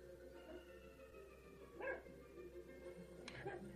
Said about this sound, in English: That's our dumb poodle barking.